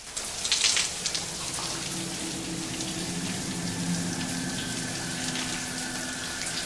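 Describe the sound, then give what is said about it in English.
A shower runs in a steady, hissing stream of spraying water in a shower cubicle behind a yellow curtain as a woman rinses her long blonde hair, with a brief louder splash at the start and a faint low hum beneath. No one speaks. “She shuts her eyes under the flow of water and turns around, rinsing her hair, squeezing it with both hands.”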